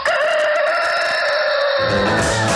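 A rooster crows loudly in one long, sustained, strained call that holds steady and then sags slightly toward the end, with no talking over it.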